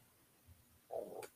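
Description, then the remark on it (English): A brief, quiet gurgling growl like a rumbling stomach, lasting about a third of a second and ending in a faint click, heard alone against low background hiss. “Sound like somebody's stomach growling on that right quick.”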